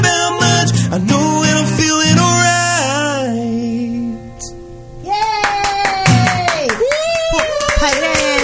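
Hands clap in a steady rhythm along with live singing and guitar, the sharp claps cutting through the music, briefly easing off mid-clip before picking up again.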